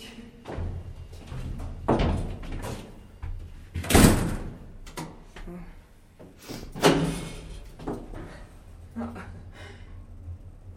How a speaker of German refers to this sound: Der Fahrstuhl läuft ein tolles Geräusch übrigens. Macht der?